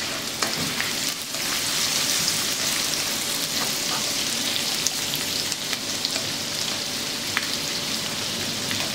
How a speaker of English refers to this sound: The first thing we're going to do when our oil is nice and hot is add the spring onion whites and our garlic to it and fry it till it's nice and brown and give that a good stir.